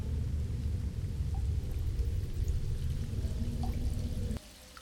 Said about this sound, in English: This part of the cave is going to start flooding before long, and you're standing right in the path of the water. I wonder how long you'll be able to stay on your feet when the water really starts rushing in.